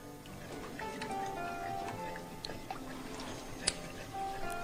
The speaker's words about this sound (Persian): بعد از اینکه به جوش اومد، حرارت رو تقریباً به حرارت متوسط می‌کنه و اجازه میدیم یواش یواش سمنوی ما رنگ خودش رو تغییر بده، تقریبا تیره رنگ بشه و بعد از اون تقریبا حلوایی شکل که شد، ما باز آب ولرم رو به اون اضافه میکنیم.